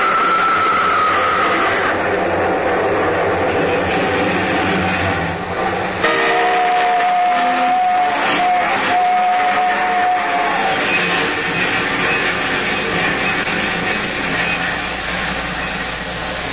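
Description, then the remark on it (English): A long, loud train rumbles past, its heavy clatter and roar filling the air steadily, with a sustained high horn-like tone sounding midway through. “Nobody's going to hear anything except this train. Yeah, there's the big baby now. A nice, long train. Long and loud.”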